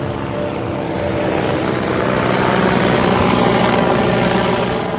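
helicopter

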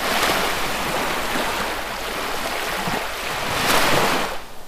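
waves on a beach

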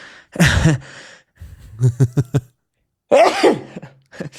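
sneeze

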